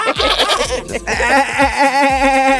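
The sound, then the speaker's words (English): A person in a fitness class imitates a goat's bleat as a therapeutic centering exercise, one long, loud, quavering 'baa', wavering throughout, with no other talking. “The leader usually encourages the participants to harness their inner goat and let out a therapeutic bah to center themselves.”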